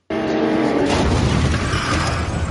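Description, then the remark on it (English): A car crash at the start of the trailer for the film Focus, starring Will Smith and Margot Robbie, bursts in abruptly and loudly, a dense wall of crunching, shattering noise layered over a low engine roar that stays heavy and sustained to the end, with no talking. “So it starts with a car crash.”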